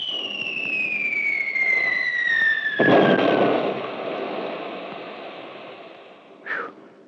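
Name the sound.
artillery barrage explosions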